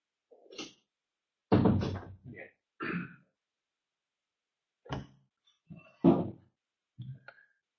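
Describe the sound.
A door is pushed shut with a solid thud, among several scattered bumps and handling noises. Brief throat or voice sounds occur between them.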